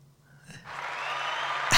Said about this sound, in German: Der kommt so selten zum Einsatz hier bei mir, mein toller Applaus. Aber das ist doch auf jeden Fall mal ein Applaus wert.